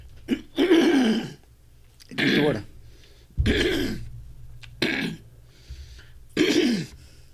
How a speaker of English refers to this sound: Hold on, let me clear my throat.